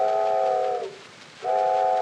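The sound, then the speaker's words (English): A steamboat whistle blows two long, loud chord-like blasts separated by a brief pause as the steamboat comes round the bend. The first blast slides down in pitch as it fades, and then the second begins. “Steamboat coming round the bend.”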